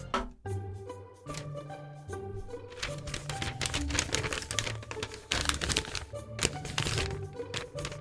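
Paper crinkles and rustles in a busy, irregular string of crisp bursts, continuing for several seconds over a low, steady tonal background.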